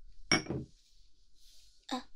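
Glasses clink together in a toast at a family meal at home, a sharp knock with a brief bright ring, followed by a second clatter a moment later, with faint murmuring in between.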